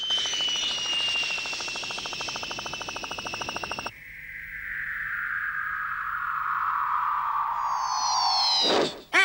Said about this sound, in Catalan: L'avioneta es perd a l'horitzó.